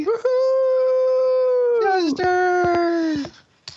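dog howling

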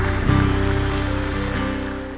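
applause

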